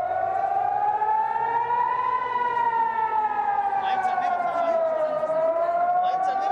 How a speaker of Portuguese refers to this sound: As sirenes voltaram a soar. O braço armado do Hamas disse ter disparado esta terça-feira dezenas de rockets contra Israel.